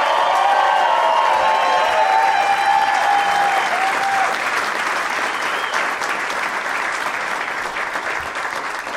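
A crowd at Helium in St. Louis applauds steadily for the full nine seconds at the end of a show, a dense wash of clapping with whoops and cheers riding on top early on, then settling into even, sustained applause.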